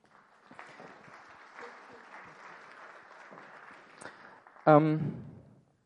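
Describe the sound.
Steady audience applause fills the room with dense, continuous clapping for several seconds, ending with a brief loud voice burst as the clapping fades out.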